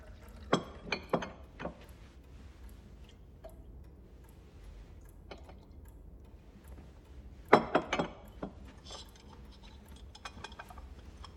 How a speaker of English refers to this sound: She brings in a tea tray and sets it down on an oak chest. She pours them both a cup from a china teapot.